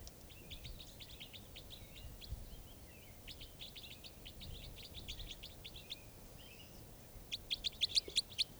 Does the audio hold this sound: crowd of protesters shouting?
no